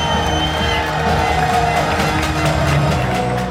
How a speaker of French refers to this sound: 17h55, les joueurs entrent sur le terrain sous les applaudissements des supporters.